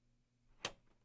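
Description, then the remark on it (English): A single sharp metallic click as a door is unlocked, sounding once against a quiet, faintly humming background. No one speaks. “Let me unlock the door.”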